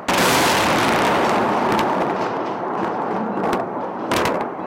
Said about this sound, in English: The U.S.-led invasion of Iraq had begun, and explosions thundered across Baghdad.